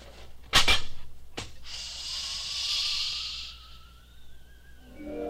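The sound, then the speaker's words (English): A spaceship door opening after landing on Mars: two sharp metallic clunks, then a loud pneumatic hiss of escaping air and a rising mechanical whine that fades into a faint electronic hum. “Open the door”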